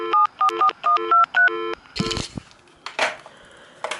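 A quick run of about eight short touch-tone keypad beeps from a 2000s Panasonic cordless phone handset as the star key is pressed, evenly spaced, followed by louder clattering and clicking handling noises.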